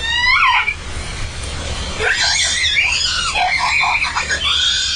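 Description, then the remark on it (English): A whale gives shrill, wavering squeals and cries, one rising call followed by a longer run of warbling screams, all over a constant low underwater rumble. “And as they dove, that calf came off her rostrum and they went past, and you could see the calf behind them and you could hear the scream.”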